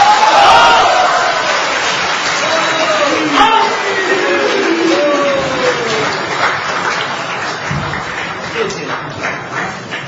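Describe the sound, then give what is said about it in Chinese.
Sustained audience applause at a Chinese crosstalk (xiangsheng) performance of "Man Han Quan Xi": a dense, steady wash of many hands clapping with a few voices mixed in, holding for about ten seconds and thinning slightly toward the end. “感谢大家给您一个人的掌声。 再拍就是给你拍的了。”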